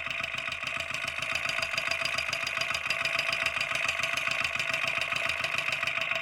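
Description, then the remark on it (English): A running engine's valves, going up and down, rattle in a fast, steady, mechanical ticking, like a sewing machine, over a constant loud hum and a bright hiss. The mic is placed at the valves. There is no talking. “It's like a rattle. The valves going up and down.”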